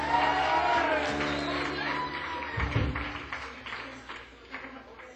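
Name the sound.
audience applause and cheering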